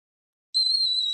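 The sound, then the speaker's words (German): A whistling kettle on a gas stove, late in the evening, starts abruptly after a short silence and holds a steady, shrill high-pitched tone, fairly loud, with no voices. “Der pfeifende Kessel auf dem Gasherd riss Rasmus am späten Abend aus seinen Gedanken.”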